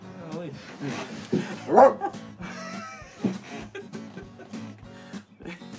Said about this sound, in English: Bark, you gotta bark. Oh, I saw the light turn on. Do it again. Oh, yeah, I saw that time too.